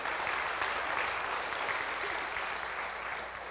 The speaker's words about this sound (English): give the Lord a round of applause again this morning. Amen.